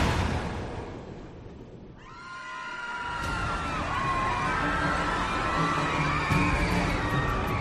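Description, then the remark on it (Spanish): A crowd of passengers aboard the Costa Concordia cruise ship screams and shouts in panic at night after the ship struck a rock and the lights failed, building from a low rumbling murmur into a dense, sustained wall of high-pitched cries filling the space. “Minutos después, todo fue oscuridad y gritos de pánico.”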